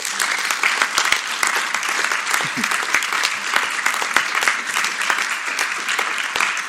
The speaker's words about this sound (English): And we are pleased to award this year's Dr. Tang Chung Wu Award to Union Sanitary District. Can you please join me in celebrating USD with a round of applause?